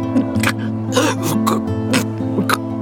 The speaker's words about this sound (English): Frank waited while Vivian coughed up more fluid. It was pinkish in color.